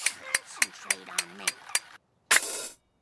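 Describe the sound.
A clockwork monkey in Homer's head clangs its cymbals in a quick, even rhythm as Marge speaks, about seven sharp clashes, then a pause and one longer, ringing crash. A faint voice murmurs under the first clashes.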